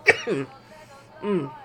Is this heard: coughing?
yes